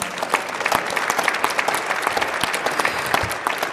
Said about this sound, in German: Herzlichen Dank, einen großen Applaus für unseren Gewinner noch einmal.